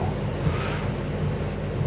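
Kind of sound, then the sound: nature, strong wind and waves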